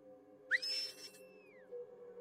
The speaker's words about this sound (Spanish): Todo estaba en silencio hasta que comencé a escuchar un chiflido.